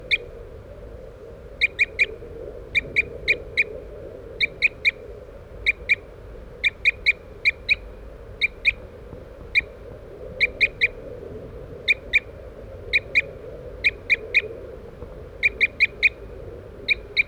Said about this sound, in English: we're using birds 3-3, who's tooping in the background, and 4-3 as decoys. And we haven't heard any crossbills yet this morning.